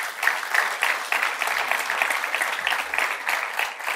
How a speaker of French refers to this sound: Est-ce qu'on peut l'applaudir ensemble?